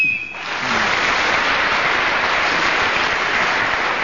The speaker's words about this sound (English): So Jenny Eclair was speaking as the whistle went, which is slowly deteriorating, the whistle sound. And it's nothing to do with Jane Gibson, by the way. I think it's a BBC whistle that's got a damp P in its core.